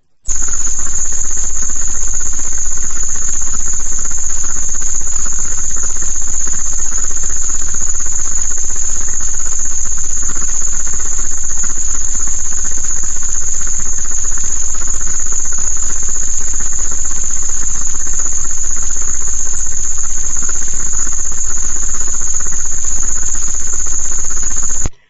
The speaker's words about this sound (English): we have the two tinnitus frequencies. I'm going to let them play for a little while. ELF created this. Basically, ELF consisting of the Schumann resonance and other tones added in to fuck it up created these tinnitus tones. Science. Listen to them.